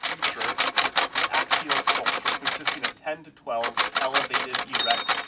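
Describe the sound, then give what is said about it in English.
Loud clacking of Braille typewriter keys, worn with deep grooves from years of use, struck in a fast, steady rhythm, breaking off for a moment midway with a faint murmur before the rapid typing resumes. “The keys on his Braille typewriter have deep, worn grooves from years of use.”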